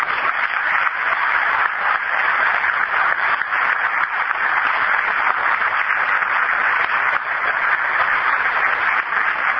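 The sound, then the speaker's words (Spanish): A crowd applauds Isaac Soloducho steadily for about ten seconds, the clapping dense and even in loudness from start to finish, with no voices over it. “A Isaac Soloducho también un fuerte aplauso.”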